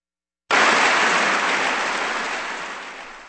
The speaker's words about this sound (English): It's always a good time when they start clapping before the music ends. Here on Kansas Public Radio, a good time indeed.